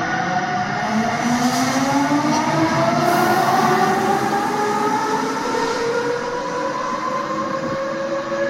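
An electric locomotive runs steadily and loudly, its motors giving a rising, whining hum over a constant rumble of rolling wheels, with no voices.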